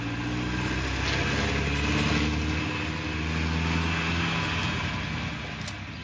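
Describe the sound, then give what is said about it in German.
A heavy truck engine rumbles steadily, its low droning tone holding for several seconds with a broad hiss on top and no voices. “LKW rechts rüber!”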